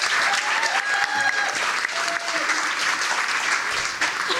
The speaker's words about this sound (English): Well, okay, they're going to be giving us suggestions, and we'll also be getting ones from our audience here at the Black Box Theatre as part of Northern Ireland Science Festival. Give yourselves a round of applause and a warm welcome.